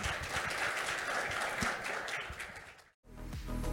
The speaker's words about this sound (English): Okay, thank you very much for interesting talk. Please give another round of applause to our speaker.